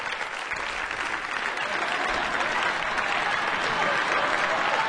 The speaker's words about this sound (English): I don't even know why you're clapping.